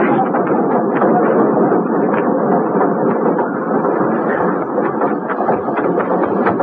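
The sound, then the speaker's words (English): A steady, loud rumble of a train rolling along rails, with faint rhythmic clicks and clatter running through the continuous roar, filling the whole stretch without pause. “Get on the train, Flora.”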